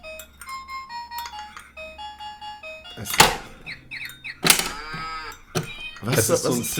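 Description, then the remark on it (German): A plastic toy farmhouse, with buttons pressed at its base, plays a tinny electronic jingle of stepped beeping notes, then several loud, scratchy bursts follow, like recorded animal calls, without talk. “So ein Plastikbauernhaus, ja, wo du so unten auf so Knöpfe drücken kannst und dann gehen so Türen auf und dann kommt halt der Bauer raus, ja, oder das Pferd oder die Kuh oder der Hund.”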